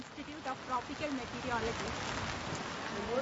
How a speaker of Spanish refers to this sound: ¿Dónde estamos? Bajo la valiosa lluvia, la magnífica lluvia del monzón. ¿Esto es lluvia normal o una nube? Una nube. Esto es lluvia normal. Lluvia normal del monzón.